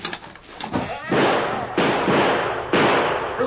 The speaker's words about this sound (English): You were trying to kill me, so you shot too high.